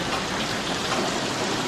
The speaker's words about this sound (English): Well, can you give me some idea when it's going to let up? I mean, 8 hours from now? 24 hours? 40 days? I hate the rain.